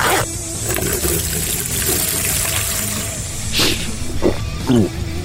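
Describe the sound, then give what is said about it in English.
A person urinates in the desert: a steady stream of liquid trickles and splashes, a continuous hissy pour with a few louder gurgling spurts toward the end. “And Bear Owls can quaff my piss any day of the week.”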